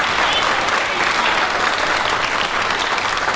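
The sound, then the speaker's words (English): A church audience claps and applauds steadily for Jesus, a dense, loud wash of many hands clapping at once that holds at an even level throughout without pause. “Come on, somebody, put your hands together and give Jesus a hand clap in here.”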